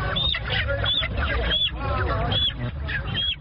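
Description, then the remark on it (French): Chickens, accepted as consultation fees by a traditional healer in Yaoundé, Cameroon, cluck and squawk continuously and fairly loudly, several birds calling over one another in a busy, crowded-sounding flock with steady background noise. “qui accepte les poulets comme frais de consultation, dit être spécialisée dans la guérison spirituelle.”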